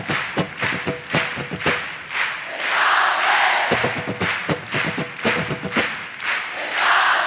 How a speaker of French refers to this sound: Donc à un moment, je vous fais un signe, c'est très technique, genre comme ça. Et là, il faut crier, c'est pas vrai, quoi. C'est pas vrai ! C'est pas